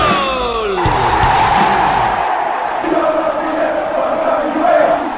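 A short stadium battle-cry jingle: a brief electric guitar riff with sliding notes opens, then a loud, sustained crowd roar and yelling fills the rest at steady volume.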